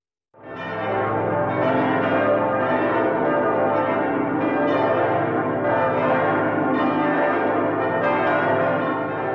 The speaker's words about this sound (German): Stellen Sie sich vor, es ist Ostern. Ostern im Jahr 1725. Die Kirchenglocken läuten, die Gemeinde strömt in die Nikolaikirche in Leipzig und alle sind gespannt, was der Thomaskantor heute für sie bereithält.